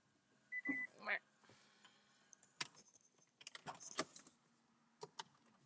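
Quiet keys jangle and clink in several short bursts, with a brief electronic beep near the start and a few sharp clicks, as a car is switched off.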